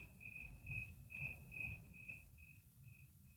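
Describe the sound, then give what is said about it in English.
Crickets chirp steadily at night in a repeating pulse, roughly twice per second, over a low rumbling background, with no voices present. “We dozed off listening to those noisy crickets.”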